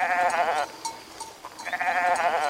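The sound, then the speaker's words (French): A goat bleats twice, loud, each call a wavering, nasal quaver, separated by a second of quiet with faint rustling in between. “La chèvre répond.”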